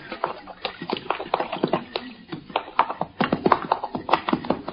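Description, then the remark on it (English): Several horses, ridden by men at night, wade and plod across a boggy river, a steady stream of irregular splashing, sloshing hoofbeats with no voices, the sucking thuds overlapping as the animals move across together. “We're across all right, Sergeant. Yes, Captain, but look at that bank there. It's nigh on to impossible to get the horses up there.”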